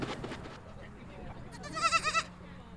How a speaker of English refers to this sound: They're all mini goats, yep. But yeah, the littler ones are baby. These are Nigerian? These are miniature Nigerian dwarf goats, okay.